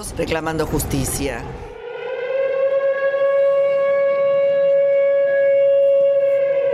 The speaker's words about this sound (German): Wenn heute, wie jedes Jahr am 18. Juli, ein schriller Sirenenton die Bewohner von Buenos Aires an das Attentat erinnern wird